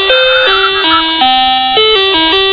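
A toy that was set to go off at some point plays its bus music jingle early: a bright, electronic melody of stepping tones, loud, with no voices over it.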